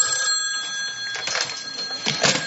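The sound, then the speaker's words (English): A telephone bell rings in two bright, rattling bursts over a steady high metallic hum, fairly loud, with no voices. “Answer that for me, will you?”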